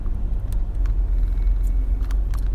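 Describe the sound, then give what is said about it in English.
A steady, deep rumble of a car cabin while driving, with low road noise droning continuously and faint occasional ticks above it; no one speaks. The driver is pulling up emails while driving. “Again, I'm in my car trying to make sure I don't crash into anything as I pull up these emails.”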